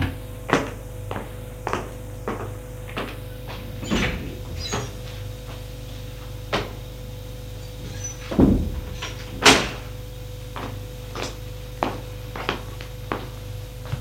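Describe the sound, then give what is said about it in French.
A door, the right-hand one of two in a corridor, is opened with a run of sharp clicks and rattles, a few louder thuds and a creak midway, all over a steady low hum with no voices. “Elle va ouvrir celle de droite.”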